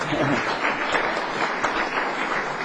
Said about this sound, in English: So another lot of clapping. Come on.